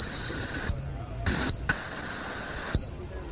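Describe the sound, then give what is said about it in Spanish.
A shrill, high-pitched train whistle sounds in three blasts as one of two demonstration locomotives starts its first run on Las Ramblas in Barcelona: a long one, a brief short toot, then another long blast, loud and steady with no talking. “Con este pitido de tren comienza, por tanto, el primer recorrido de una de las dos máquinas que, como indicamos, están haciendo esta demostración aquí en plenas Ramblas de Barcelona.”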